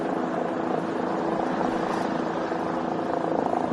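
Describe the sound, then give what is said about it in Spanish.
A helicopter drones steadily overhead above the rubble of a collapsed building in Miami, its rotor producing a continuous rumbling chop at a constant, fairly loud level with no talking. “Las imágenes que nos llegan desde los helicópteros, imágenes de escombros, son escalofriantes.”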